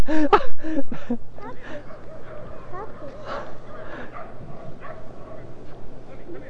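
dog whimpering and yipping

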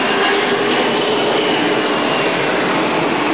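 airplane flying overhead

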